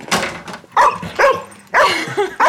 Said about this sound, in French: Doudou, Falcon. Arrête. Allez, tout doux, mon chien.